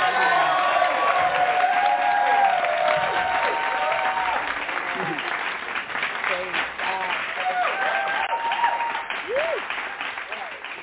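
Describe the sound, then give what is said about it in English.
A crowd gives a hand clap praise to welcome a poetry reader, applauding steadily and warmly for about eleven seconds, dense clapping with a few voices calling out and cheering over it, loud throughout. “So we are going to welcome her with a hand clap praise.”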